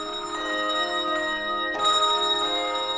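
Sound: bell ringing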